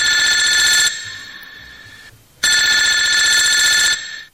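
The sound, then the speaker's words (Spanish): A shoe phone rings loudly, two bright electronic bell trills separated by a short pause, with no voices. “La escucho por mi zapato teléfono.”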